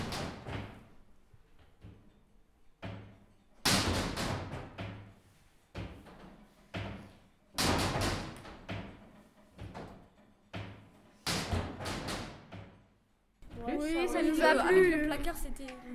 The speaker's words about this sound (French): C'était bizarre un peu. On dirait il y avait tout le monde qui claquait les portes et qui était en colère là.